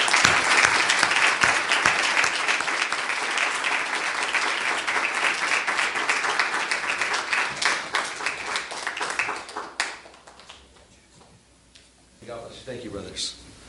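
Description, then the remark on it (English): A church audience bursts into loud, dense applause and hand clapping for the brothers who worked on the services and the building, holding steady for about ten seconds, then thinning out and fading as a single voice starts speaking. “And I just want to give them a hand clap this morning.”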